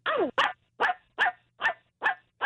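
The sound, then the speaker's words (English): A person imitates a dog barking, letting out seven loud woofs in a quick, steady rhythm with brief silences between them and no other talking. “I can bark like a dog.”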